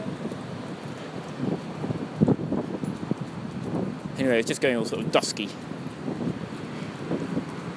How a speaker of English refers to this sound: And it's really windy anyway, so you probably can't hear me.